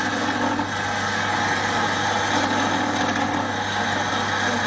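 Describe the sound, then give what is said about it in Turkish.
A steady, dense buzzing drone from honeybees calling for the dance to be repeated, like the hum made during a dance call, holding at an even loudness for several seconds with a low, engine-like tone and no voices. “Bu sesle çağrıda bulunuyorlar maşallah.”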